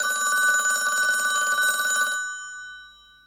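A telephone bell rings loudly and continuously for about two seconds, a bright metallic trill, then stops and its tone fades away briefly. No voices are heard.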